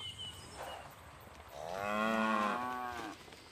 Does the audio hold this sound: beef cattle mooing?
yes